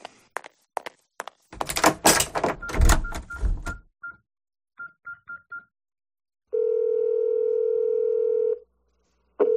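door being closed

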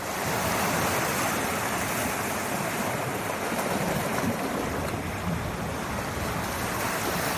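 sea waves

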